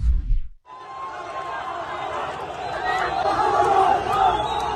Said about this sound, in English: If you can't see this, this is enormous crowds of people cheering and celebrating, excited at the slaughter of civilians and the kidnapping of other civilians.